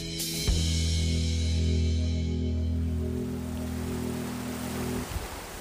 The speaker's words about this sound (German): Das, was man hier im Hintergrund plätschern hört, das ist die Möll. Und für mich persönlich sorgt diese Geräuschkulisse als Stadtmensch für sofortige Entspannung.